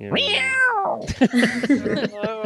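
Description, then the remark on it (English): A cat meows loudly, a drawn-out rising-and-falling cry followed by a string of shorter, broken mews over about two seconds, with no talking. “But we have a cat you could have, by the way.”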